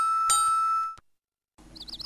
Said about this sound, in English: Why do I always have to wear this bell around my neck? I hate it. Don't be silly. It is a bell for your safety. This way, I always know where you are from the sound of the bell.